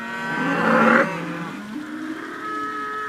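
A cow moos: a loud, low, drawn-out call that swells in the first second, then trails into a softer, wavering lowing that carries on to the end. No one speaks.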